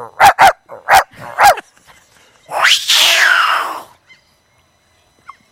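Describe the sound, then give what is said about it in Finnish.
A person's voice imitates a dog barking: five quick, sharp barks in a rapid burst, followed by a longer, drawn-out yelping cry, all fairly loud. “Ja sitten jotain ääniä, niin tää on vaikka koira, menee näin.”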